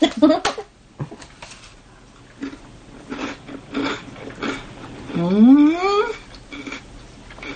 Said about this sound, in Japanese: よし、じゃあラスク食べます。 おーい、すげえいい音するな。めちゃめちゃいい音するな。